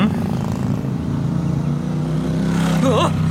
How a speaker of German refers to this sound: Oh, sind die bekloppt? Um ein Haar hätten diese wahnsinnigen Motorradfahrer meinen Käfer erwischt.